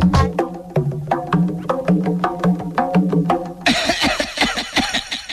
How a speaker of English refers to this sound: What a lot of coughing.